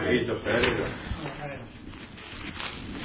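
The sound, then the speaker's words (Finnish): Continuous rustling and crinkling of paper as pages of a letter are leafed through, with a faint voice murmuring in the background. “selaa tuota kirjettä”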